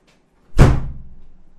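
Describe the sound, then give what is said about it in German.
A door slams shut with a loud bang, its low thud ringing out and fading over the following second. No voices are present. “Nicht wundern, das war meine Tür.”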